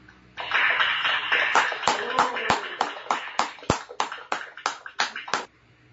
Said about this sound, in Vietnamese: Đó là phần giới thiệu quan cách và các chi hữu chúng tôi xin tất cả mọi người một tràng pháo tay chung để chào mừng tất cả mọi người.